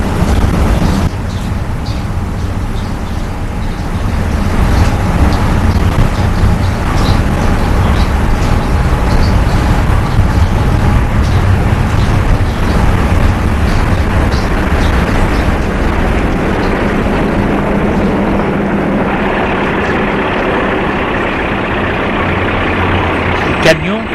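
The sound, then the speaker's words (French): A heavy delivery truck bringing provisions rumbles loudly, a steady low drone that shifts in tone near the end as it settles into idling before being unloaded, with faint voices in the background. “Comme il n'y a personne qui peut aider pour décharger le camion.”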